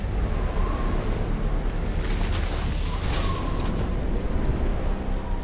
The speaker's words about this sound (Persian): باد و طوفانی با سرعت 300 کیلومتر بر ساعت